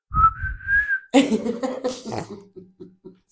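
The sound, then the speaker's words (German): A person whistles a brief melodic phrase, a steady high tone drifting slightly upward for about a second, followed by noisy bursts like laughter or coughing and a few short, choppy sounds. “Scheiß Rumgepfeife, kann ich abfüllen.”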